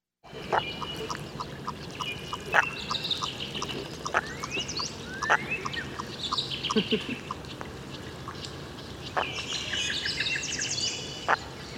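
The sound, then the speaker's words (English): Low, hoarse calls of a common merganser duck sound off now and then amid a busy outdoor chorus of chirping, whistling songbirds and a steady series of rhythmic ticking notes, moderately loud. “Ah, and so now we've got a wonderful duck here. It's called what, a common merganser?”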